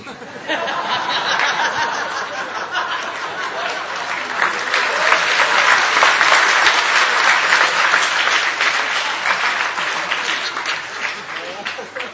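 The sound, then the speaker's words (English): A crowd claps steadily for about twelve seconds after the speaker imitates a dog chanting Krishna's name, dense applause swelling slightly in the middle, with scattered chuckles and laughter mixed into the clapping. “when my dog-like propensities come out, everybody claps.”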